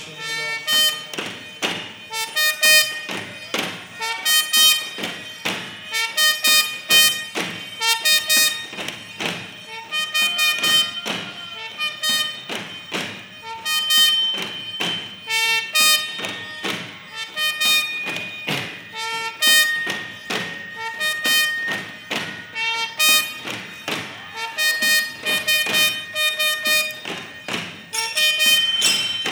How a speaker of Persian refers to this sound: شیپور جنگ به صدا در اومد، بچه های عبی عبدالله تن و بدنشون میلرزه.